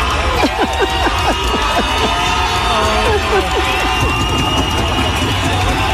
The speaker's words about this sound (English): Everyone's cheering. Touchdown. Hornets.